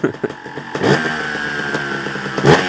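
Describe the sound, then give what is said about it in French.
A trial motorcycle engine revs, popping in short bursts at first, then holding a steady buzzing drone before surging again near the end. No one speaks. “C'est pour que la moto soit plus réactive, moins réactive, qu'elle monte plus les tours ou qu'elle prenne mieux les tours en bas”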